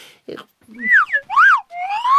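A whistle is blown in a few sliding notes that swoop up and down in pitch, fairly loud, with a brief scuffling noise at the start and no talking.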